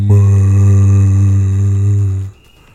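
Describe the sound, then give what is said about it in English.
A voice imitates the horn of boats heard when it is cloudy, with one long, low, steady droning blast full of buzzy harmonics, held for over two seconds before cutting off abruptly. “And then when it's cloudy, bro, the boats, all you hear is...”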